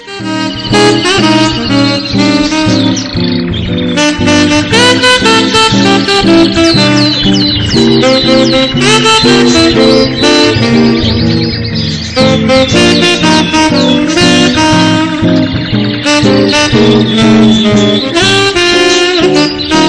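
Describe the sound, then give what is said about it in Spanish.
Birds chirp and sing continuously, bright trills and tweets layered over a dense, steady backdrop that stays loud throughout, with no one speaking. “El sonido de los pájaros es maravilloso, es precioso.”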